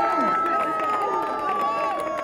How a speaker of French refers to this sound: Il y a également des marcheurs brutaux qui sont là. On peut les applaudir plus fort.